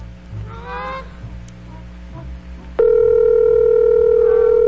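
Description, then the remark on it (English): A telephone ring tone from a call placed during a live radio broadcast cuts in abruptly partway through, a loud, steady electronic tone held to the end, following a stretch of honking, goose-like calls over a low background rumble. “It's ringing. It's still ringing. Pick up.”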